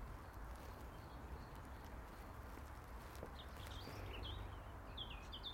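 Sparse, high bird chirps and short whistled notes at the end of January, before the full dawn chorus, surface over a steady hissing, rumbling background, growing a little busier toward the end. No one speaks.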